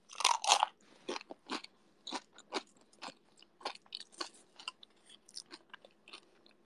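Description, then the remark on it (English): Crisp crunching of food being chewed, with two loud bites at the start followed by a steady run of sharp, irregular crunches. No talking. “Enjoying me crunching.”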